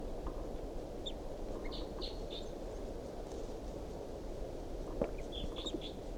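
Faint, high calls of a wild bird, up in the top of a tall pine above a truck and responding to decoys, come in short scattered bursts over steady outdoor wind or rumble, with a small cluster early and another near the end.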